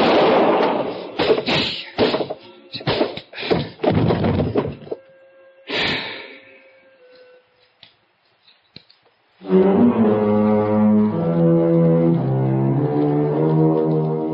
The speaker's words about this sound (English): I knew the sound of the gunshot would bring the others back to the cabin.